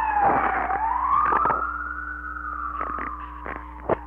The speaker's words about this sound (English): When and if any of you ever want this tape, you'll get a nice blast of siren in there.